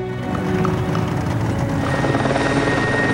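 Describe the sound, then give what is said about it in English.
A state police helicopter hovers overhead, its rotor chop thumping steadily and loudly with a droning engine whine throughout, no voices present. “The state police helicopter was hovering from up above.”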